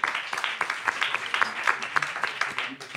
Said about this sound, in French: Très bien, mais moi je pense qu'on peut applaudir nos deux intervenants.